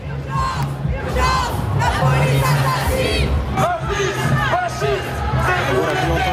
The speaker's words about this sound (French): La foule scandait, je cite, « La police assassine et Israël assassin »